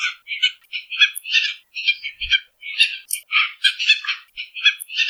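Tropicbird calls ring out in a rapid, continuous string of harsh, sharp squawks and barks, loud, with brief raspy screeches mixed in and no voices present.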